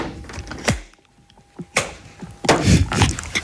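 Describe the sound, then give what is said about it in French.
The lid of Albert's box is shut, with Albert back inside and his glove on top: two sharp wooden knocks spaced apart, then a louder clattering thud with a brief rattle as it settles closed. “Voilà, Albert est retourné dans sa boîte, son gant est par-dessus, et je ferme le couvercle.”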